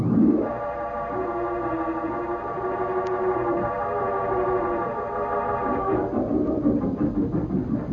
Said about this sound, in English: We will strike at once. Send the robot jet bombers aloft.